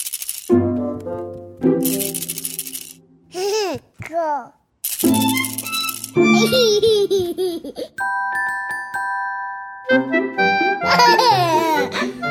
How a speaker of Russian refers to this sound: Когда я была совсем маленькой, то очень любила эту погремышку.